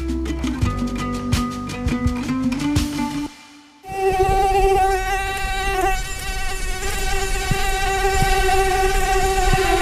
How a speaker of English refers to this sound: This sound, but think about how a female mosquito feels. To us, it's just an annoying whine, but to them, it's an annoying whine that says, if I told you you had a beautiful thorax, would you hold it against me?